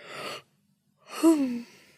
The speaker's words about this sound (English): All this talk of yawning is making me have to...